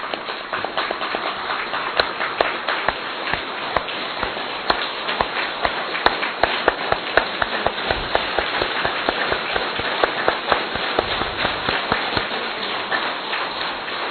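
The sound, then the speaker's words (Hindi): A crowd claps steadily for about fourteen seconds, a dense rattle of many hands with sharper individual claps popping out, and no voices over it. “15 minute, थोड़ी तालियां बजाएंगे जरा।”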